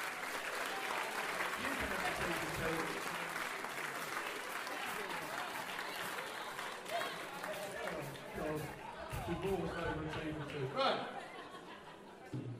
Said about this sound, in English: So give everyone a round of applause.